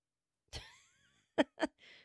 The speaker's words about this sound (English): Oh my God. Why do I have a smoker's cough when I don't smoke? Why do I have a COVID cough when I don't have COVID?